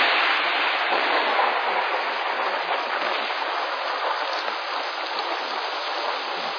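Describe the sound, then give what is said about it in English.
Heavy rain pours down in a steady, dense, loud hiss, with no letup and no voices. “The rain is slamming down”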